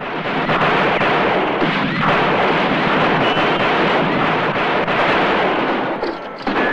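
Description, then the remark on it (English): Rapid rifle gunfire as Joe fires on a gang at a taverna, sending them scattering for cover; the shots blend into a dense, loud, continuous barrage that roars almost unbroken for several seconds before easing slightly at the end. No one speaks. “He's about to shoot when Joe opens fire, shooting rapidly at the gang, sending them scattering for cover.”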